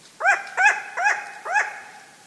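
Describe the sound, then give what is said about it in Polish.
A long-eared owl gives its alarm call, recorded by Cédric Mroczko in the French Pyrenees in November 2020 at 5:40 in the early morning: four short, harsh, barking notes in a steady rhythm, each rising then dropping in pitch, fairly loud, with a tawny owl faintly in the distant background and no talking. “To jej głos alarmowy.”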